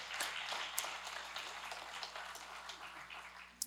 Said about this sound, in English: Come on, can we just give them a round of applause and thank them for that?